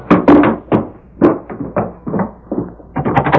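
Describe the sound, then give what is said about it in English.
Men pound with their fists on a wooden door to force their way in, a dozen or so loud, booming thumps in uneven bursts, ending in a quick flurry of hits. “Open up before we bust the door in.”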